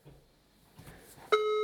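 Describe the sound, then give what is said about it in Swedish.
A steady electronic telephone ringing tone starts abruptly after a second of quiet room noise and holds loud and continuous to the end, a pure tone with harmonics heard through a phone line. “Det ringer.”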